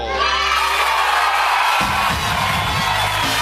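A large crowd cheers and claps loudly, with whoops and shouts layered over dense, continuous applause that holds steady throughout, and a low musical hum rising underneath near the end.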